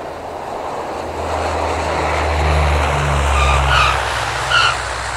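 A Dash 7 propeller airliner on route 710 from Trondheim Værnes lands at Namsos Airport on a Friday evening; its engines drone steadily as it touches down and rolls along, with a low rumble, sustained tonal whine and a brief tire skid near the end, loud, no voices.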